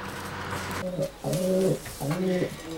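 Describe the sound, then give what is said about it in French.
Pigeons coo in three rounded, throaty phrases with brief pauses between them, a soft rolling sound over faint background noise. “Et puis voilà, j'ai débarqué avec ses pigeons et il les a trouvés tellement attendrissants qu'il a décidé de construire un pigeonnier.”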